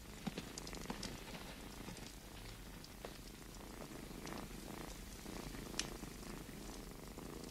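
A cat purrs steadily and continuously, a low rumbling drone with faint crackly ticks scattered through it, fairly quiet and with no one talking.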